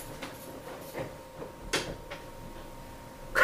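A door shuts with a solid knock, followed by a few sharp mechanical clicks like a lock being turned, all over the steady hum of a running fan.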